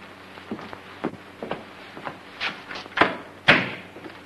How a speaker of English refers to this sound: Matuchek waits a moment, then locks the front door.